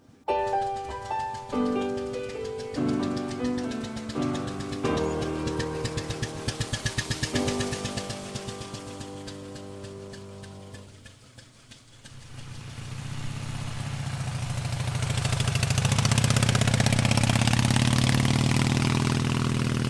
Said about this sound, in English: This is an Elf cycle car, chassis CC01. So it's got an Anzani V-twin, and it's got a three-speed and reverse gearbox.